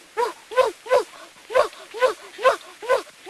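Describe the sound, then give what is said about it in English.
A very young boy, playing a game of pretending to be a dog, imitates a dog barking: about eight short, voiced woofs in a steady, quick rhythm, fairly loud, with no other talking. “He thinks he's a dog.”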